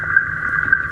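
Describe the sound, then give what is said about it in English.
A steady electronic tone hums from a Vemco VR100 fish-tracking receiver detecting tagged fish, each tag with its own ping, with a few brief, brighter pings rising out of it at irregular moments over low background rumble. “And you can hear the pinging in the background, a little ping, ping, ping.”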